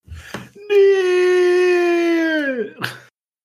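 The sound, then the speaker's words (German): A single sustained vocal wail from a human voice, a timid, fearful zombie-fear scream that holds steady for about two seconds before trailing off, fairly loud, with brief breathy sounds around it. “Ich muss sagen, das war ein sehr zaghafter Schrei.”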